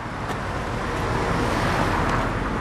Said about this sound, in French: Voilà, le camion arrive chargé, il y a le matelas, le sommier, la machine à laver